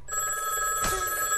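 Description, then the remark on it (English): An old rotary telephone bell rings steadily and fairly loudly for the whole moment, a sustained metallic jangle with no voices over it. “I just called him on my big rotary phone.”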